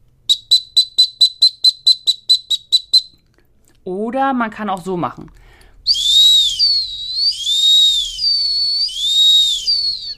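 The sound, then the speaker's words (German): A rapid string of about a dozen short, shrill dog-training whistle blasts, a brief spoken phrase, then three long, warbling trilled whistle signals used as the search command for a dog, loud. “Das sind so die drei Töne, die ich so geläufig kenne für den kleinen Suchenpfiff.”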